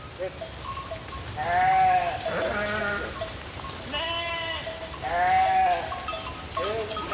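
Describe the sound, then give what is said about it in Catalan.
The public flock of sheep and goats of the village of Vilamòs, in the Val d'Aran, bleats in overlapping, wavering calls, some loud, others fainter, with steady outdoor background noise and no one speaking. “Aquest és el ramat públic d'ovelles i cabres o biuec.”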